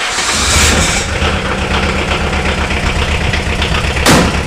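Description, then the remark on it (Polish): A GAZ off-road jeep engine idles with a steady, low, throbbing rumble, broken by brief hissy bursts near the start and again near the end, as the jeep sets off off-roading. No one speaks. “W wolnym czasie jego pasją staje się także offroad. No to do gazika i w teren.”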